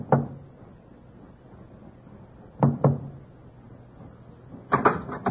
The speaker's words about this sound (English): First Officer Forsyth with Watchman Petrie at his elbow knocked discreetly on the door to B-24.